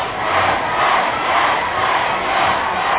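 A large crowd roars and cheers wildly, a dense, loud, sustained wall of voices that stays steady for the full three seconds with no clear individual words.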